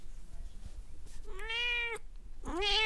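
kittens meowing

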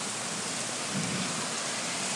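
loud thunder with rain

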